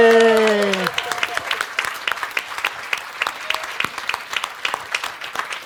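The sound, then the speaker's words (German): An audience bursts into steady applause for a contestant's score of 422 points during a stage game's results, many hands clapping in a dense, lively patter that carries on for several seconds, right after a brief held vocal tone at the start. “Einmal Applaus.”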